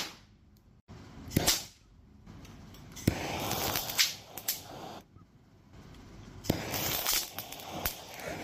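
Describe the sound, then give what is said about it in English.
Several sharp, cracking snaps of dried, gray, sand-like silver acetylide detonating at irregular intervals, each a loud bright pop like a cap gun, over a steady crackly hiss with no voices; the detonation releases no gases, leaving elemental silver and carbon. “And it goes off with a pretty good snap.”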